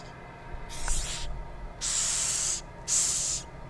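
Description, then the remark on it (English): Three bursts of airy, high-pitched hissing from a Madagascar hissing cockroach, each lasting under a second. The later two are louder and steadier, separated by brief pauses, over a low background rumble. “Okay, so this is the Madagascar hissing cockroach, and they get their name because they hiss.”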